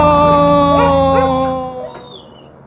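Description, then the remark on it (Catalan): A female dog lets out a long, loud, wavering howl mixed with a few short yelps, then the cry fades and trails off into a thinner whine near the end. “Seràs la primera gossa voladora de la història.”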